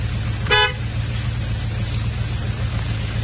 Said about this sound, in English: Now honk your horn. What? Honk it!